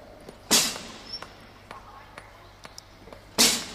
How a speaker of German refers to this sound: Hört ihr das Klopfen und Hämmern? Ich glaube, wir sind ins Kupferbergwerk eingestiegen. Das sind die Bergleute.